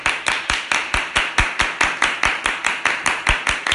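Steady, rhythmic hand clapping, about fifteen sharp claps at an even brisk tempo, fairly loud, with no talking.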